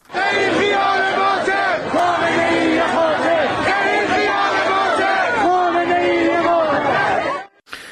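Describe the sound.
A large crowd of protesters at a demonstration in Nishapur chants slogans against Supreme Leader Ali Khamenei in unison, many voices rising and falling in a steady rhythmic cadence, loud and sustained throughout before cutting off abruptly at the end.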